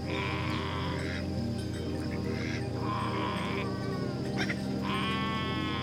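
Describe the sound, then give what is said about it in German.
Goats high up on a mountain slope bleat repeatedly in a series of wavering calls, some overlapping, with short pauses between them over a steady buzzing background of insects. No one speaks. “Ziegen sind außerordentliche Kletterer und lieben es, weit oben in den Bergen auf die Welt zu schauen.”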